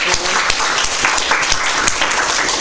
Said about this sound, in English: Right, that's everybody, right? Right, a round of applause for our students.